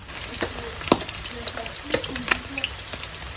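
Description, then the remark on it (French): Onions and garlic fry in a pan as the first step of browning duck, with a steady crackling sizzle, broken by sharp pops and occasional stirring scrapes, at a moderate, even level with no talking. “On repart sur le feu. Cette fois, il s'agit de roussir le canard.”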